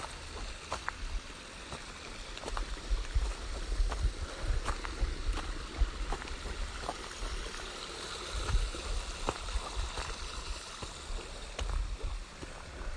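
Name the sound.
flowing stream water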